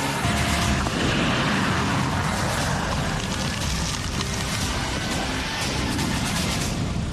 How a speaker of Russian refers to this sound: Есть готовность один. Позволяет нам после выполнения задачи очень оперативно и быстро сменить позицию, что повышает, соответственно, живучесть самой боевой машины и расчеты пусковой установки. Есть пуск.